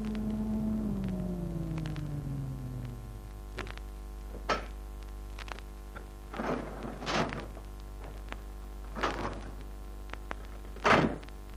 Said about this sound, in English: 20 minutes later, I entered the Biltmore Arms building, took the elevator to the top floor.